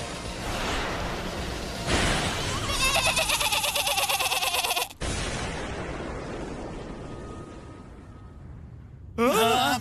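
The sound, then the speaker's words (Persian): Loud, wavering sheep bleats from a magical sleeping-sheep attack ring out over a rushing, whooshing roar of noise, then a brief sweep of sound and a final sharp bleat at the very end. “جادوی خلق تنبه، حمله گوسفند خواب.”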